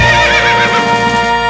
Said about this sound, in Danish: Hvad? Det var en hest!